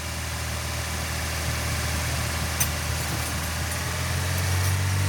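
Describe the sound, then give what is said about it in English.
An old diesel dump truck idles steadily in a yard in Lagos, Nigeria, while girls learn to bleed a fuel pipe, a low rumbling drone with constant vibration and no speech, a faint brief click partway through. “Back in the yard, girls crowd around an old dump truck to learn how to bleed a fuel pipe.”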